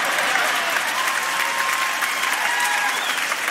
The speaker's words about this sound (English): Why are you clapping for me? I'm so bewildered.